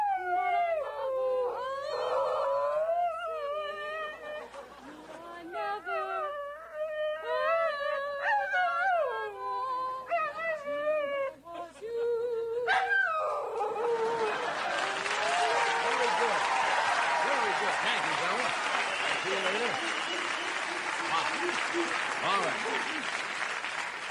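A Shetland sheepdog named Raisin howls in long, wavering tones that slide up and down in pitch, repeated for several seconds, before loud applause breaks out and fills the rest.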